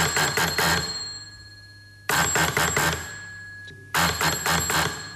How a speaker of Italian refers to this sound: e il ricevitore col famoso campanello. Perché continuo a dire questa cosa del campanello? Perché appunto la poesia del fatto che un'invenzione così importante fu annunciata da un campanello che suonava.